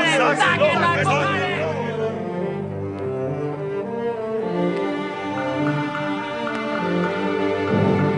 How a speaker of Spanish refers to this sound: Los gentiles gritaron de alegría cuando Pablo se bajó de la plataforma y salió.